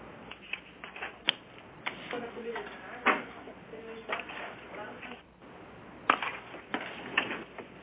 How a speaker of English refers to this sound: I'm trying to back it up with what I'm flipping through paper here. I apologize.